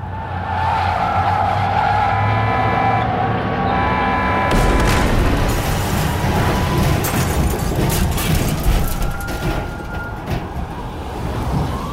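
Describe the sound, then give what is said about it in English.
A tour bus engine drones steadily, then a sudden loud skid on black ice gives way to a long, violent crash of scraping and tumbling metal as the bus skids off the road and flips, rumbling on for several seconds. “bus hits a patch of black ice, skids off the road, and violently flips until it finally slams the ground.”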